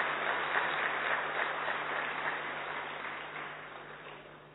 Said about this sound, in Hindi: तो अपने लिए प्यार से जोरदार ताली बजाइए।